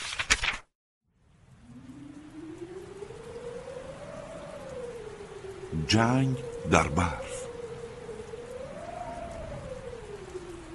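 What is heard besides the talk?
heavy rain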